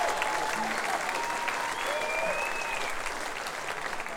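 Steady audience applause for a nylon-string guitarist, a dense wash of clapping hands at an even, fairly loud level, with a few faint whistles rising above it.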